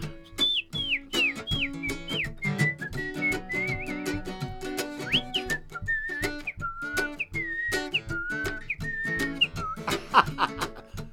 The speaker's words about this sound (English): Can you whistle it?